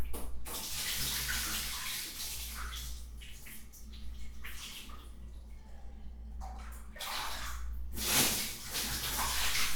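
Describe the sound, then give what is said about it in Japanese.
Steady running water from a tap splashes continuously as feet are washed, with a low constant hum underneath and bursts of brighter splashing, no voices. “ちょっと足とか洗います。”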